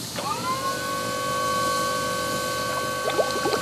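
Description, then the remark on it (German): Water gushes and bubbles steadily throughout on a sinking ship as its deck shakes, a dense rushing wash with a few brief bubbly pops near the end, while a loud, sustained droning tone hangs over it. “Das Deck wackelt. Und ein lautes Wummern. Wassersprudel und Luftsicht.”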